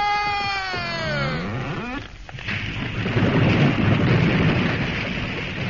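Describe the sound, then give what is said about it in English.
A tree felled by lumberjacks groans with a high, wavering creak, then crashes to the ground in a loud burst, followed by several seconds of heavy, rumbling crackle as it settles. “Boy, am I fed up with chopping these gosh darn trees down day after day.”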